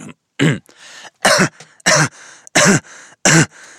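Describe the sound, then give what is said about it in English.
A voice imitates a man deliberately coughing in an exaggerated, ridiculous way: five loud, harsh, throaty bursts in an uneven rhythm, with brief raspy breaths between them. “It sounded like a man deliberately coughing in the most ridiculous way that he could muster.”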